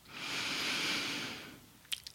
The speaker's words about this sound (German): Vielleicht auch hörbar durch den leicht geöffneten Mund zu atmen.